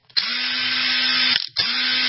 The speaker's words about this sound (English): Oh, because that's a motor running. It's an electric motor.